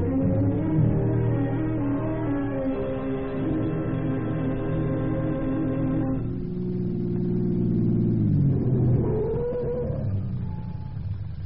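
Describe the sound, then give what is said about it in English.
A car engine, started at nearly 5:30 in the morning to hurry to a customs post at a border crossing, drones steadily with a low, loud hum, then shifts at about six seconds and its pitch climbs as the vehicle accelerates away. No one speaks. “Run down and get the car started.”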